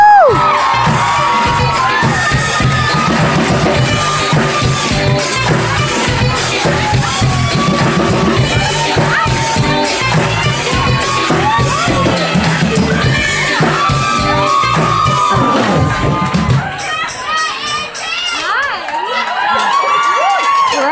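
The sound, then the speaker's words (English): A loud crowd cheers, whoops and applauds continuously for Andy Dorfman, a Bachelorette contestant and author, with dense clapping and scattered high shouts, easing slightly near the end as a few voices stand out. “Well, give it up for Andy Dorfman one more time, everybody.”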